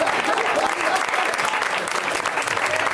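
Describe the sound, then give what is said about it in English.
A crowd applauds steadily and loudly throughout as guests are welcomed out onto a show, a dense wash of many hands clapping with no breaks, filling the room. “This is a great crowd applauding that entire time.”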